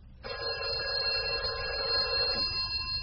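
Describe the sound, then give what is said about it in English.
A telephone rings at 6:30 with a steady, continuous electronic trill lasting a few seconds, fairly loud, over a low background rumble, then cuts off near the end. “The phone rang at 6:30.”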